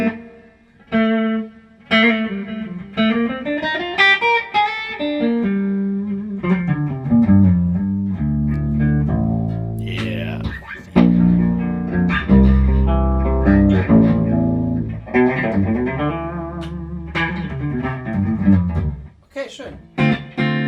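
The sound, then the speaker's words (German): An electric guitar plays through a Blue Guitar amp with its built-in reverb turned all the way up, its chords and single notes ringing into a long, washy tail that blurs each note into the next. “Dreh mal den Hall ganz auf.”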